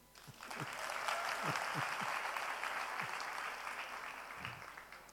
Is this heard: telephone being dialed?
no